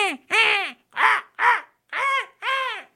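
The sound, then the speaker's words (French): Crows cawing, about six harsh, raspy calls in a steady sequence, fairly loud, with short pauses between each caw and no other sounds around them. “ce silence, dans cette nuit et ce brouillard, a entendu des corbeaux. Et il a commencé à voir les corbeaux monter au-dessus du nuage.”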